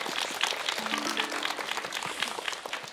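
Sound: applause and cheering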